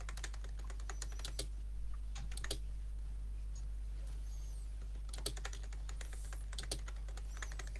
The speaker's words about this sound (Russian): печатаю.